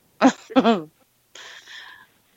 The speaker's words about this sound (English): I was having a coughing fit, so I didn't hear any of it.